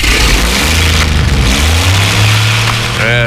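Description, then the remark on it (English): A truck engine turns over and catches, then revs up loudly, its rumble climbing in pitch over a few seconds before settling into a strong, steady roar. “Get it started. I don't know if it'll start. You know. Oh, there she goes.”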